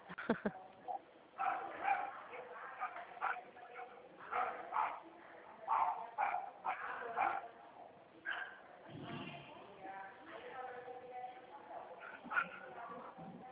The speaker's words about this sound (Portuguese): Essa cachorrinha é da minha vizinha, tá?